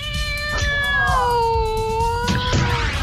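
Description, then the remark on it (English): A cat lets out one long, drawn-out meow that slides slowly downward in pitch, loud, with no voices over it. “Oh, kitty. Kitty.”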